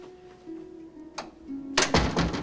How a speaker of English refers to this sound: Sport closes the door in her face.